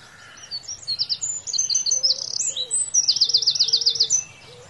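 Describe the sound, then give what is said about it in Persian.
Birds sing and chirp continuously, with rapid trilling phrases and bright repeated tweets over a soft natural background, clear, with no voices present. “این آوای طبیعت.”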